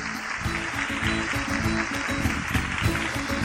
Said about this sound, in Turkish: Onları kocaman bir alkışlayalım bakalım. Hadi bakalım.